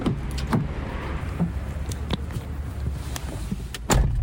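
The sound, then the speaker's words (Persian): Several thumps, clicks and rustles of car doors and movement as people get into a car, over a steady low rumble, ending in a louder closing thud near the end. No one speaks. “حالا بشیم تو ماشین.”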